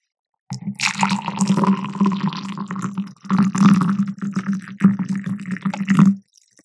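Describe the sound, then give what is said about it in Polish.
Hot water pours steadily into a glass for about six seconds, a gurgling stream with a low hollow resonance, briefly interrupted twice before stopping abruptly, in a test comparing it with cold water. No voices. “To była zimna, a teraz gorąca.”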